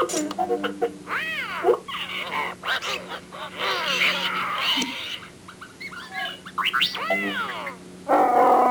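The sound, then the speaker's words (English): Chewbacca the Wookiee from Star Wars roars angrily while playing a game with R2-D2, in a string of loud, harsh, honking bellows that rise and fall in pitch, with short pauses between bursts over a low steady hum. “Screaming about it can't help you.”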